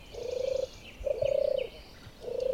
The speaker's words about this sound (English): And they're from animals that are on the red list of endangered species in the UK. So the first one you're going to hear is the song of the turtle dove.